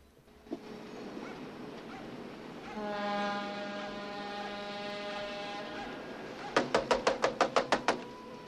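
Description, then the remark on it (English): Noisy harbor ambience with a steady low rumble as a long horn blast sounds, then about eight quick knocks rap out in a rhythmic burst on the door of a clapboard house near the harbor. “While she waits for a response, Teddy looks out over the noisy harbor area before knocking again.”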